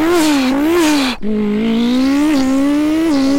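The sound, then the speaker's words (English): A voice imitates a sports car engine, a loud, sustained buzzing rev that rises and falls, breaks briefly as if shifting gears, then climbs again in a steady drone. “He's making some car sounds if you want to hear.”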